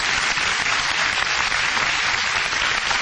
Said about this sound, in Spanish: Este es el marco de la Feria del Libro de las Varillas. Vamos a aplaudirnos.